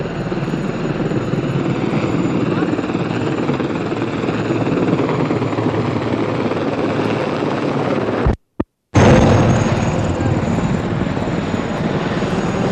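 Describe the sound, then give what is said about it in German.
A loud helicopter drones steadily with dense rotor and engine roar filling the whole stretch, broken only by a brief silent gap partway through. It arrives over a street demonstration with police on Industriestraße. No one speaks. “Jetzt kommt der Hubschrauber.”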